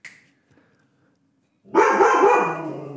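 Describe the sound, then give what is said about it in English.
After a stretch of near silence, a dog, Charlie, suddenly barks loudly, a raspy, harmonic outburst that runs on without a break until the end. “Now he's barking.”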